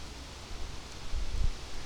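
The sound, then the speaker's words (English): Wind gusts buffet the microphone outdoors on a windy day, a steady breathy rush with deeper rumbling swells that peak near the end. No voices are present. “But it's kind of windy.”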